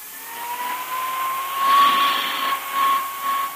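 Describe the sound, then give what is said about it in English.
A small hand vacuum cleaner runs steadily over a coat, its high motor whine and airy rush swelling and dipping slightly as it moves across the fabric, with no one talking. “what's the point of going over that coat with a hand vacuum?”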